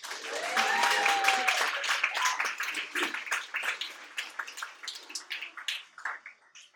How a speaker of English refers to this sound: Let's have another round of applause